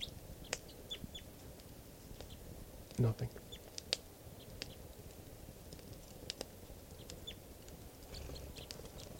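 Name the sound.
bird chittering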